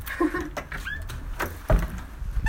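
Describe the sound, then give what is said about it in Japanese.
Clicks and metallic rattles of a key working the lock of a front door, locked before going shopping, then a solid thud and scraping as the door swings open, with no one speaking. “あれ、鍵。そうだ、買い物行く前に鍵閉めたんだった。”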